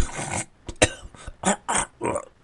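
A run of harsh coughing and gagging, about half a dozen rough, irregular bursts with brief pauses between them, with no one talking.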